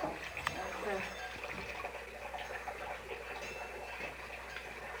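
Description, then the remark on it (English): Fly spray, mostly water with a little iodine-containing antiseptic called Iofen added, hisses out in a steady spray, with a sharp click near the start and faint voices murmuring underneath. “Your fly spray is so extra good, it seems like the flies want to come right back. Is that just plain water?”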